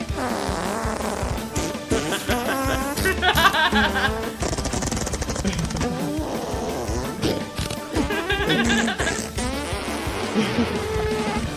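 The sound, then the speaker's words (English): The Radetzky March performed entirely with fart sounds: buzzy, sputtering tones rise and fall in quick, bouncy succession, forming a continuous lively melody with no talking. “Classical farting.”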